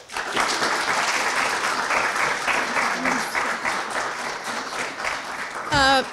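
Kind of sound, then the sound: crowd, audience applause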